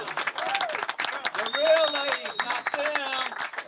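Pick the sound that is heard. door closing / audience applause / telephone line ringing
audience applause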